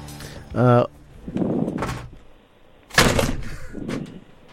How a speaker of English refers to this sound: catapult a half-filled bottle of water across the room using the springy back of a studio chair. I mean, if it's newfound, it's probably alive. It is alive. Allow us to demonstrate right now.